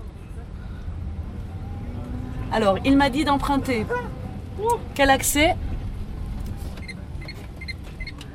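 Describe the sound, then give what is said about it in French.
A quiet vehicle rolls along at about 24 km/h with a steady, low road rumble throughout, while people talk briefly inside over the soft hum; the driver releases the accelerator and brakes. “24 km/h. Et si tu lâches le champignon, qu'est-ce qui se passe ? Il y a un frein... Je freine.”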